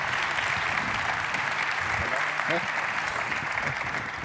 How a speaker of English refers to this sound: I would like you to give them a warm round of applause. Thank you.